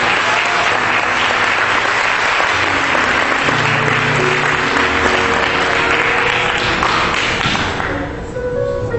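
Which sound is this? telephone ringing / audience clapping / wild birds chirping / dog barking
audience clapping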